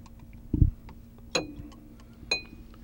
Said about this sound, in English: And then once you've got your cherries and your orange in the glass, just... Ooh, add a couple of shakes of bitters.